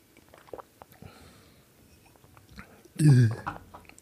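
Someone drinks beetroot juice: a few faint, soft gulping and mouth sounds over quiet background, followed by a short, loud, throaty vocal exhale near the end.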